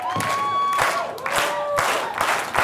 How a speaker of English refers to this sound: So let's get the news team out here. Let's clap them in like it's a fast bowler and it's summertime. You ready? Here we go.